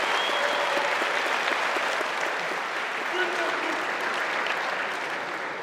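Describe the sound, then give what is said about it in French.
Sustained audience applause after a fighter wins a three-minute combat bout with a chokehold, a dense crackle of many hands clapping at steady loudness, easing off slightly toward the end. “Applaudissements.”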